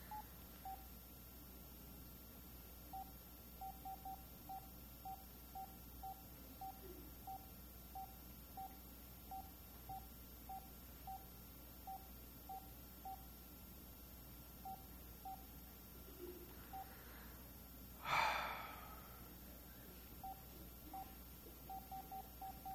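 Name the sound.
telephone keypad dialing tones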